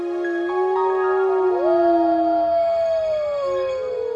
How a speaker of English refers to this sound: Nothing symbolizes a cold, moonlit night like the howl of a wolf. The haunting sound can travel for miles, and if you live around wolf territory, you might especially notice it tonight.